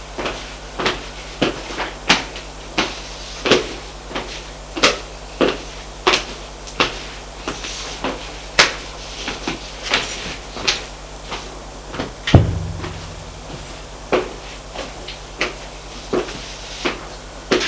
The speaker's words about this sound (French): Frappe à la porte.